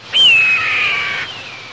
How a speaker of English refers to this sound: Yeah, that is a red-tailed hawk.